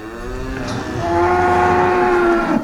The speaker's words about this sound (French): Et depuis tout petit, j'aimais aller chez eux, aller voir les vaches, travailler avec eux.